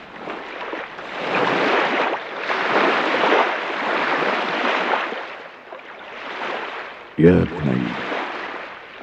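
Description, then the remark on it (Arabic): Sea waves wash onto the shore in several long, rolling, fairly loud surges, with a short burst of a voice near the end. “نحن يا بني كالسمك نمرض ونموت إذا تركنا البحر، فذهب الآن، اذهب إلى الشاطئ وامشي مقدار ساعة واملأ صدرك برائحة البحر واملأ عينيك بأمواجه اللاهية.”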